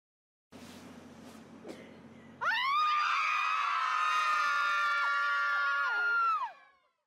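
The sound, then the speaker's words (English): After a couple of seconds of low background rumble and small noises, several women, mothers assembled to scream together, break into a loud, sustained scream, holding it for about four seconds before it trails off. “I will play the clip now of the single mom screaming.”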